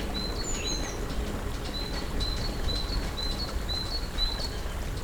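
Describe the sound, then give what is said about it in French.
A bird repeats a thin, high whistled phrase about every half second over a steady wash of wind or water, with faint fluttering twitters above, clear, in mountain woodland at nearly 1300 metres altitude. “Près de 1300 mètres d'altitude, encore des arbres, des oiseaux, des sources.”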